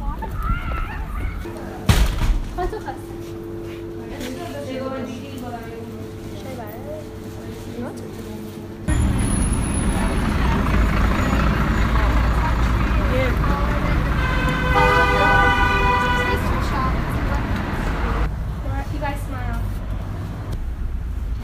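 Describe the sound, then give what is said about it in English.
Busy city street traffic of cars and trucks in Seoul with a steady engine rumble, a passing vehicle surging louder midway, and a horn tooting near the start, while people talk over the noise. “Like all the cars are equally the same loud.”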